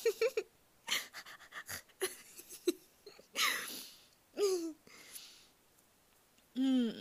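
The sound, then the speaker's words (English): A person imitates a dog panting, with quick breathy huffs in uneven bursts, some mixed with short voiced whines and yelps, and brief pauses between them. “Yeah, you make me pant like a dog because you're so hot.”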